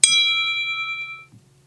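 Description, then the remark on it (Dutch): A single bright clock-like chime notification tone rings out with a sharp strike, then its clear metallic tone fades smoothly over about a second, leaving a faint low hum. “Klok.”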